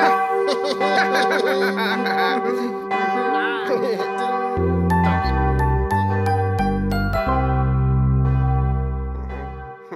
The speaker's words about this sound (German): Klingt eigentlich ganz hübsch, so eine Glocke.